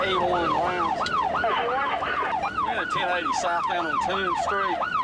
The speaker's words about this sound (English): Seconds later, the late night quiet is shattered by the sound of police sirens.